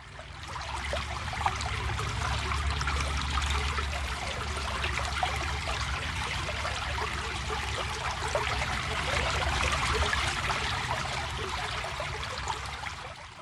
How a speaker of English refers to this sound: The first sound is the sound of a country brook.